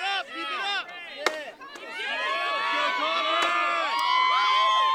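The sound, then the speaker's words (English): A few sharp, irregular axe strikes split wood during a timber sports vertical chop competition in the steel series, which mimics chopping down a tree. A loud, continuous crowd cheers the contestant on and shouts throughout. “The other contestant took a little longer to finish, but everyone kept cheering him on as he chopped away.”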